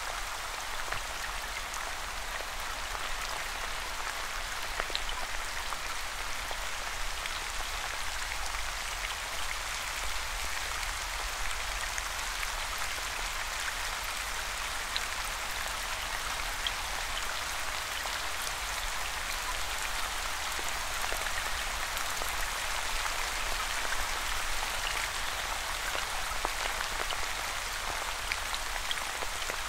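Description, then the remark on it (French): Steady rain falls continuously, a dense, even hiss of countless drops with no pauses or changes in intensity, heard on its own without any voices. “Tentez du mieux possible d'imaginer l'odeur de cette pluie qui tombe.”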